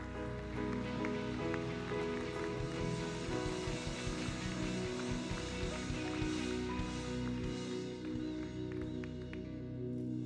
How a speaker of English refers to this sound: And I want you to give him a huge hand clap as he comes to bring the word of God this morning.